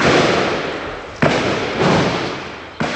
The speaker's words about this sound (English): The militants were trapped in a two-story building in the upscale Wazir Bagh area of the city, trading gunfire with members of the security forces who had them surrounded.